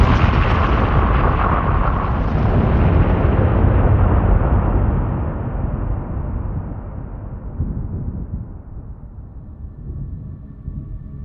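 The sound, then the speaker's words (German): A massive thunderclap, heard through a telephone during a thunderstorm, roars out as a broad, rumbling blast, then rolls and slowly fades over several seconds, its higher tones thinning away while a deep rumble lingers. No one speaks. “Ein Güterzug raste mit Lichtgeschwindigkeit durchs Telefon. In mein Ohr.”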